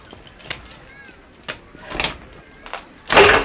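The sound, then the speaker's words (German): A plain door at the top of a staircase is unlocked and opened: a few sharp metallic clicks and rattles from a key in the lock, then a louder scraping swing of the door at the end, with no talking. “oberhalb der Treppe schloss er eine weitere schlichte Tür auf.”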